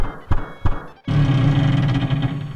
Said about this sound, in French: Ah, la porte du chef. Je frappe.